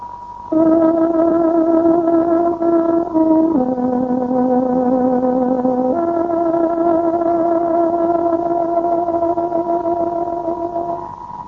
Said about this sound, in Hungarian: Kedves hallgatóink, pontos időjelzést adunk, tárogatónk 18 órát jelent.